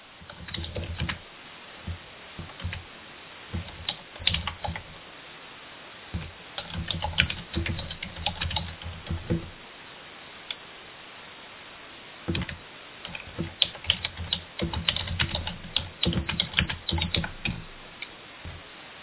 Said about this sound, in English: I hear a lot of people typing.